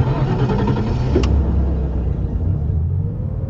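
A car engine rumbles low and steady as the car pulls away from the parking lot of an apartment building in Bordeaux, with a brief sharp click partway through and the drone easing slightly toward the end. No one speaks.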